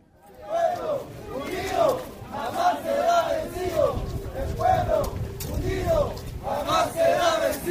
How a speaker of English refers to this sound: found himself in the middle of rioting at one polling station in an indigenous slum area of Santa Cruz City, where opponents of the poll were trying, by a means Bolivians often use, to prevent voting going ahead.